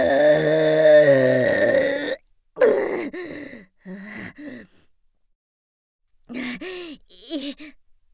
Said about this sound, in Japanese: いかがでありましたか、特大敬礼ザーメンゲップ。皆さんに聞かれちゃったであります。強烈なザーメンゲップ、失礼したであります。